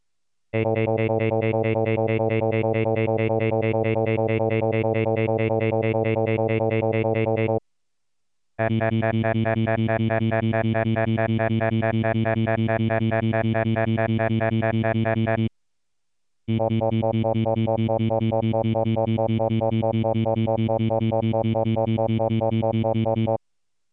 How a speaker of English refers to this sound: Demonstration 11, stream segregation of vowels. First you will hear alternating pairs of synthetic vowels forming separate streams. First the vowels have the same steady fundamental.